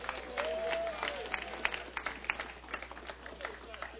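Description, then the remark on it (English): An audience cheers and applauds for the contest entrants, a dense wash of voices with sharp scattered claps, loud at first and gradually thinning into looser clapping, with a brief whistle early on. “Can I get a cheer for all of my entrants?”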